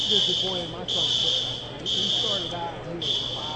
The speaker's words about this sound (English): So they're still waiting for this fire alarm to go off, or get turned off, rather, before they continue the wrestling action.